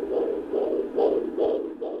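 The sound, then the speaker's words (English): A fetal heartbeat on a doppler monitor during an obstetric checkup at Brookwood Medical Center, rapid whooshing pulses at a steady quick rhythm, about five beats in two seconds, fairly loud with no voices; the rate is in the 140s. “A quick listen to the baby's heartbeat.”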